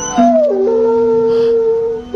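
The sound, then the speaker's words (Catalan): A dog left alone at home plays the piano and lets out a loud, long, sliding howl over sustained piano tones, the wail dipping and holding steady before rising again at the end. No one speaks. “i ells, doncs, revisant el vídeo, quan els amos no hi eren, van descobrir què fa el gos quan es queda sol.”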